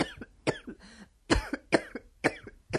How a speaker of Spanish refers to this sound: Oye, mucho mejor que yo has tosido, que yo he tosido fatal al principio. Yo quería toser.